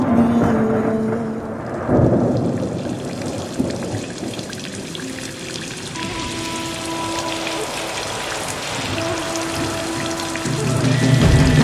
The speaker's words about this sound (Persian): هوا بارونیه، هوا بارونیه.